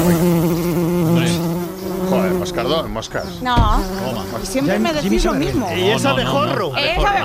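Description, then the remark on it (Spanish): A bumblebee buzzes, a steady, loud drone that wavers in pitch as it moves around, continuing without a break for several seconds. “Vamos aquí 20 años poniendo la abejorro.”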